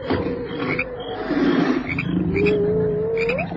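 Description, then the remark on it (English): Continuous deep growling and snarling from a lion and a striped hyena, the lion's rumble mixed with a higher, drawn-out whine that rises sharply at the end. No one speaks. “Striped hyena. Lion doesn't like them, does he?”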